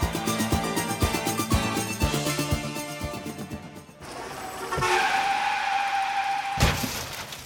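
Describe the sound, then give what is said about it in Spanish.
Rhythmic music with a steady beat gives way to a loud, sustained tire screech as a car skids, ending in a sharp crash with shattering noise. No one speaks. “¡Qué tirada le di a ese carro!”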